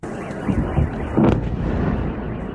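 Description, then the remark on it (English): A few heavy, rumbling booms of explosions from missile strikes go off over a constant low roar in occupied Crimea overnight, as Ukraine fires dozens of missiles at the peninsula; the loudest burst lands near the middle. They sound muffled, with no voices. “There were powerful explosions in occupied Crimea overnight as Ukraine fired dozens of missiles at the peninsula.”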